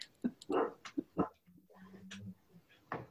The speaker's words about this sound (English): Oh, the dog. Our dog is snoring behind us.